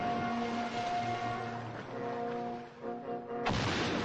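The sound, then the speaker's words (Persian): A steady low droning hum of two or three large boats passing each other on water, seen in a long shot, holds fairly loud and continuous, then breaks into a sudden harsh, noisy rush near the end. “در نمای دور دو سه قایق بزرگ از کنار هم رد میشن”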